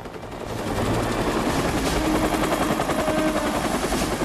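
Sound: helicopters hovering overhead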